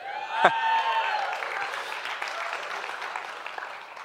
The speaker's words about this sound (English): Okay, see, we clap.